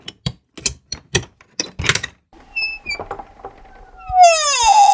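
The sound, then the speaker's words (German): A very old wooden chest, of the kind used to store linen, clothing and valuables, is opened and found empty: several sharp clicks and knocks from the latch, then the lid swings up with a long, loud creaking squeal that slides down in pitch. “Ich würde ja zu gerne wissen, ob etwas in dieser Truhe ist. Sollen wir es wagen, sie zu öffnen?”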